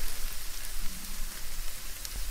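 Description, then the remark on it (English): A steady, dense crackling hiss like food sizzling on a barbecue grill, continuous and fairly even in loudness with fine popping spread throughout, no voices. “Barbecue centres. Yeah, barbecue.”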